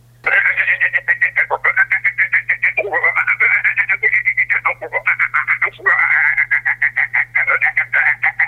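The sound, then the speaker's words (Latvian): A human voice imitates the song of a green frog of Latvia with rapid, rattling, laughing, chuckling pulses that run on steadily for several seconds, loud, over a faint low electrical hum. “Bet dziesme ir aptuveni šāda. Smējas, kikinā.”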